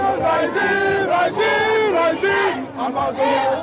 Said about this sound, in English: Okay, and this seems to be protest alley. Of people shouting, waving flags, and shaking placards.